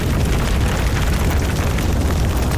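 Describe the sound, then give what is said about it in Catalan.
A forest fire burning with a loud, steady roar, deep rumbling underneath and a dense spray of crackles and pops running throughout, with no voices. “Si pensam en un incendi forestal i això que sentiu, el foc que crema, les cendres, el residu de la tragèdia, aquell mantell negre que queda quan el foc s'apaga.”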